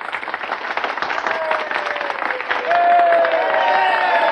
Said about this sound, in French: En fait, ce sont vos chiffres qui sont applaudis. Non, pas du tout. Vous auto-applaudissez comme les téléspectateurs de Bertrand Chamerois.